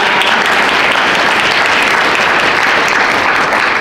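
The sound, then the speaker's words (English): A crowd applauds the day's speakers steadily, a dense, even wash of clapping hands that stays loud and unbroken for a few seconds with no voices on top. “So can we just give one more round of applause to all of our speakers today?”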